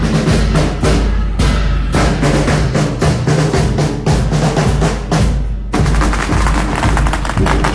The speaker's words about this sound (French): C'est pas les orgues de Staline, c'est les pétards. Et voilà, et toute la ville est en émoi. Enfin, en émoi, ouais. Enfin bon, voilà, c'est un mariage, quoi.